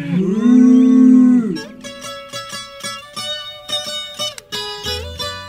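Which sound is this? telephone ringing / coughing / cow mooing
cow mooing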